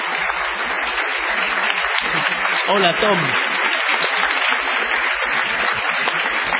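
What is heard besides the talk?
applause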